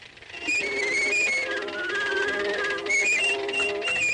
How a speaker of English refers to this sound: You know, it was a groundbreaking cartoon, but there was also some groundbreaking music. It proved that, you know, suckling pigs and goats could be musical instruments. Let's hear a little bit of the musical portion.